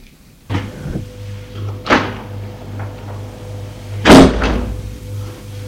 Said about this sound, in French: Une demi-seconde après, on frappe à la porte.